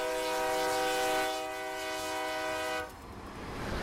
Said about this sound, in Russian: На электричке, которая ходит раз в сутки, мы приезжаем из Бескамжи в Берекчуль.